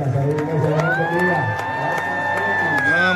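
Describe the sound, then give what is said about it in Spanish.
A church crowd shouts and cheers loudly and continuously at a pastor, a dense excited roar with high, drawn-out voices rising above it, like an audience at a concert. “Están gritando como si estuvieran en un concierto.”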